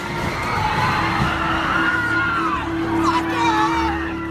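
A dense crowd of counter-protesters in Charlottesville screams and shouts in panic as a car is driven into them, voices overlapping continuously for several seconds, with a steady droning tone running underneath the chaotic yelling.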